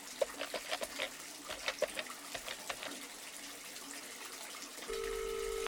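Water runs steadily from a bathtub tap that won't shut off, with a soft, splashy hiss and scattered drips, the water rising toward the top of the tub; near the end a steady telephone dial tone cuts in over it.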